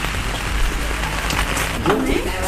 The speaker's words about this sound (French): Il pleut des cordes à Perrier en Beauficelle.